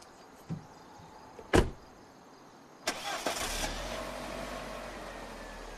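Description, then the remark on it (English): A small click and a solid car door thud, then a white saloon car's engine cranks and catches, settling into a steady low rumble as it idles, reverses out of the drive and leaves. “He looks up briefly, then watches her reverse out of the drive and leave.”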